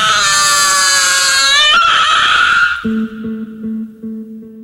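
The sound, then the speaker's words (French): A newborn baby lets out a loud, shrill squealing cry, sustained for a few seconds, then it gives way to a steady low electronic drone with soft rhythmic pulses. “L'émergence d'un corps visqueux, piaillant, d'un blanc cireux.”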